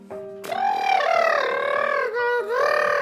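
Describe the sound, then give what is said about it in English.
A person imitates an elephant's trumpet with one long, loud, brassy call that wavers in pitch and briefly breaks near the end, with no other sounds. “It simply made a loud trumpeting noise.”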